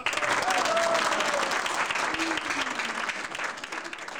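Sustained applause from a large crowd, dense and steady clapping that stays loud throughout, with a few faint voices calling out beneath it.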